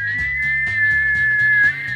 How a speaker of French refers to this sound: Le sifflet de la cocotte minute.